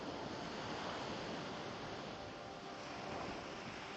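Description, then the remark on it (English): Steady ocean waves wash and break on a beach in a continuous, full rush of white noise, fairly loud, with a faint wind-like hiss and no voices. “Listen and relax as the waves come one after another on the beach.”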